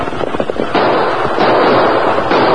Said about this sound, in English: Fire your gun into the air.